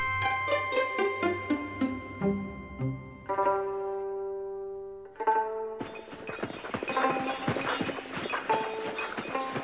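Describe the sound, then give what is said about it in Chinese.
Steady clip-clopping of donkey hooves on a road as donkeys carry a sedan chair to Xining in 1919, a brisk regular rhythm of hollow knocks mixed with sustained tonal music that swells louder and denser toward the end. “蜜月之后，施安伟坐在由驴子抬的轿子里，在海春申的陪伴下来到西宁。”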